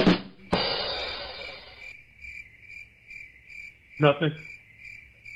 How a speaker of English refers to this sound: Nothing. Crickets.